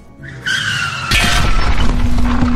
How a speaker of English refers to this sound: Let me tell you what's happening right now. A taxi cab has just crashed through the theater wall onto the stage, taking out several contestants.